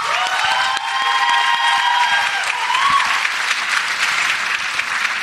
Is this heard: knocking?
no